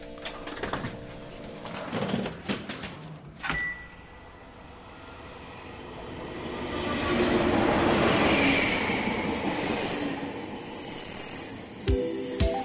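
An RER commuter train heading toward Goussainville, France, moving along the tracks during a spell of sunshine, starting with clanks and clatter, then a steady rolling roar that swells and holds loud, with occasional sharp knocks from the carriages.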